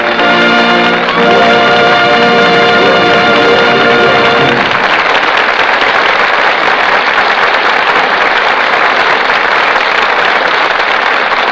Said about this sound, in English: Sure, we all agree that Myrna Loy and Don Ameche deserve every bit of the applause they're now getting. They did a truly splendid job.